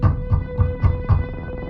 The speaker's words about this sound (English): And then, late in the night, came that pounding on the front door.